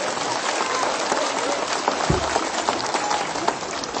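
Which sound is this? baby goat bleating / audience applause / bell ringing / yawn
audience applause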